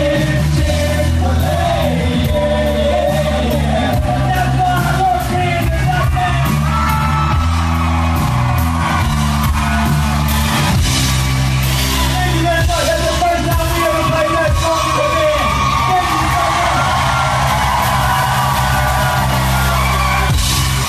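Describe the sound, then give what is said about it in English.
A huge concert crowd of about 30,000 people screams and sings the whole song along at full volume over loud live music, a dense, continuous roar of thousands of voices lasting the whole stretch. “Like 30,000 people just screaming it.”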